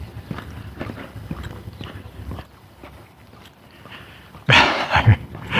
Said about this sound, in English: Across the street, a guy with two dogs.